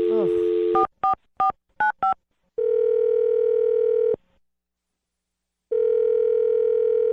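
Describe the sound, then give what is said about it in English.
A steady dial tone cuts off into a quick series of electronic keypad beeps as a man's phone number is dialed, then a long ringback tone sounds twice with a silent gap between, clear. “I'm going to dial his phone number.”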